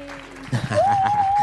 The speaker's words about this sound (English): That's right, exactly. And we're clapping for you, and we'll add in some sound effects.